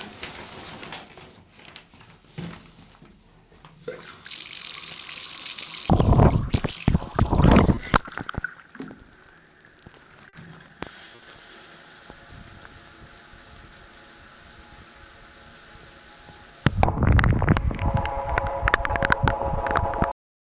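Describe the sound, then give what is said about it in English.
Shower water pours over a phone's stereo microphones immersed in a few inches of water by the drain, giving a muffled, gurgling roar that surges in loud bursts, briefly drops away, then keeps rushing steadily. “I did it once just to see what would happen, immersing it in a few inches of water and running it in the shower.”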